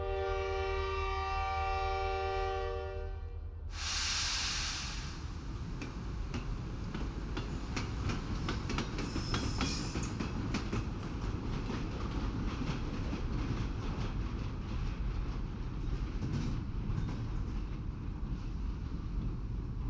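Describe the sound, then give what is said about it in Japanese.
A train horn sounds for a few seconds as the sleeper train Continental Express departs, then a steady rumble of the train rolling on rails takes over, with repeated clacking of wheels over track joints throughout. “それでは癒しの寝台列車コンチネンタル特急出発いたします。”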